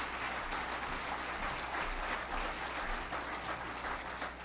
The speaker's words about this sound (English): Come on, give a good clap offering.